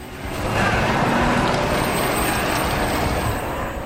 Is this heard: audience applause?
no